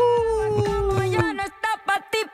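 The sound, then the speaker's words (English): A singer's voice imitates a she-wolf howl, holding a long sliding wail before breaking into three short, yelping howl-like bursts, loud with faint music underneath. “The melody is a she-wolf howling.”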